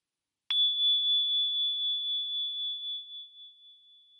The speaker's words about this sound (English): Did you hear how quiet the bell got before it was silent? Let's try 2 more times. Count how long you can hear the bell ringing before it's completely silent.